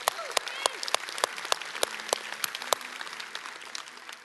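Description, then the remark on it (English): An audience claps steadily throughout, a dense patter of many hands with sharper individual claps standing out, while scattered cheers and whoops rise over the applause. “Let's give a cheer for that.”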